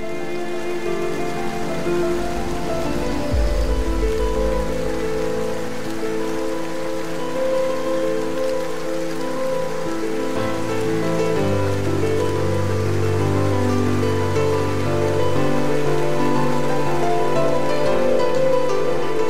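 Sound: rain falling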